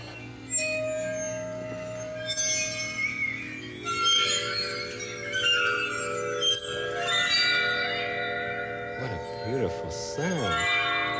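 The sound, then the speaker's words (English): Bowed waterphone, an instrument with water inside that gives it an echo effect, bowed down toward the bottom: eerie, sustained metallic tones ringing and overlapping, with high shimmering overtones and pitches that wobble and bend in swooping glides toward the end. “It's called a water phone. The water gives it an echo effect.”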